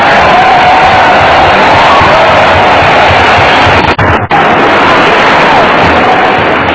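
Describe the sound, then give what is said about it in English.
A crowd at an alcoholics' recovery talk applauds and cheers loudly and steadily as the speaker is introduced, a dense wash of clapping with whoops and shouts mixed in, dipping briefly near the end before carrying on. “Not too much applause.”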